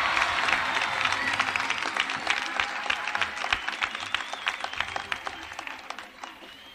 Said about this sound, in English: And they're all applauding because we got him out of school.